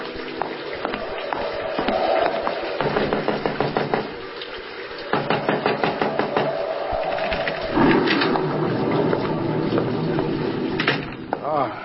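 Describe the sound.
A series of sharp raps on a wooden door cut through a steady roar of rushing water and storm noise, with muffled voices.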